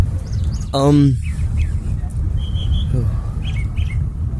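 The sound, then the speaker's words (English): Birds chirp and tweet outdoors in short, scattered calls over a steady low rumble of wind or traffic, with a brief voice-like sound near the start. “Yeah, all the evidence that God has given you, the trees, look at the beautiful plants right next to us, the birds singing in the background”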